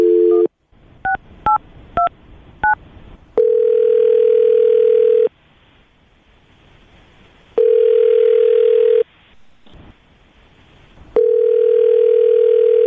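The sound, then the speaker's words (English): A brief steady telephone dial tone gives way to a quick series of touch-tone dialing beeps as a host of the radio show Brooke and Jubal in the Morning dials a woman's phone number, followed by loud, long ringing tones repeating with silent pauses between them. No one speaks. “Well, I will dial her phone number right now.”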